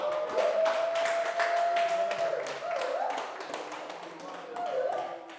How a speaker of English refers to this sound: I hope you noted how they clap for the women and mothers.